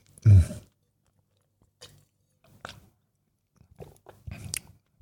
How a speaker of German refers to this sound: Deswegen gönne ich mir hier noch ein Würfelchen. Mmh. Das ist schon ein geiles Zeug. Normalerweise hörst du mich nur mit Wein schmatzen. Heute auch mit Blauschimmelkäse.